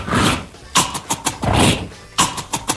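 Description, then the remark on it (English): Loud, crackly crunching made by performers chewing Cap'n Crunch cereal in their mouths, played as music: long gritty crunches alternate with quick, sharp bursts in an uneven rhythm, with no voices. “They put Cap'n Crunch in their mouth, and they make music”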